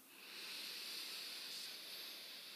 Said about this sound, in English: Breathing out through the mouth for six, counting down from six.